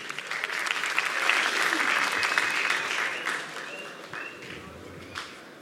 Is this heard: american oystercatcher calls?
no